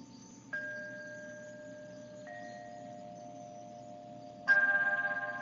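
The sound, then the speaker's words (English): Bells ring out in three strikes, each leaving a long, clear, sustained tone; the final strike is the loudest and fades with a gentle pulsing shimmer over a soft low rumble. “You cannot hear the lovely sound of bells without awareness.”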